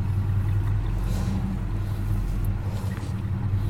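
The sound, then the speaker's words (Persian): A car pulls over and comes to a stop, its engine rumbling low and steady, idling without any voices throughout. “ماشین رو نگه میداره.”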